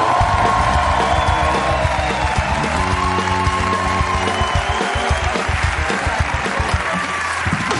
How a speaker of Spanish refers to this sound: Hoy estamos muy contentos porque está en la Resistencia Alba Flores. Un aplauso para ella.